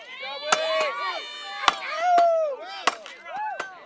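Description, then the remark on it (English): An axe chops into wood in a vertical chop competition in the steel series, mimicking chopping down a tree: about six sharp, cracking strikes at an uneven pace, with a crowd shouting and cheering loudly throughout. “He went into his vertical chop competition in the steel series, which basically mimics chopping down a tree.”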